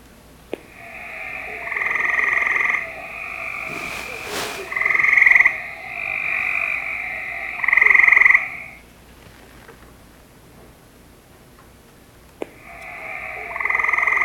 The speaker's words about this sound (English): So let's go ahead and listen to the gray tree frog.